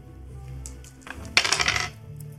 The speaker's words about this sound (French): Tu lui fais un peu pitié, vas-y lance les dés, fais moins de 30.